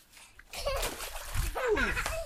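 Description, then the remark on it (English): A toddler jumps into the water: a loud, hissing splash bursts in after a quiet start and keeps churning for about two seconds, with brief high-pitched vocal cries sweeping over it. “Ready for me splash again.”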